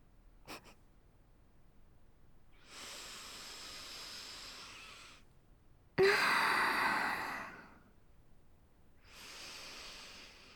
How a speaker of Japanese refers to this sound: 匂いすっごく嗅ぐし。いいよ、好きなだけ嗅いでも。私も君の匂い嗅ぐから。